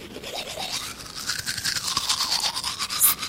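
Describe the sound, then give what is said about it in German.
A toothbrush scrubs teeth in quick, rhythmic back-and-forth strokes, a bristly scratching, fairly loud, with no voices. “Seit etwa 100 Jahren putzen die Leute ihre Zähne mit einem Bürsteli.”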